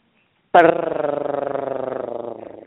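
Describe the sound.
A voice imitates a cat's purr with a loud, rolling trill that starts abruptly and pulses steadily for about two seconds before trailing off.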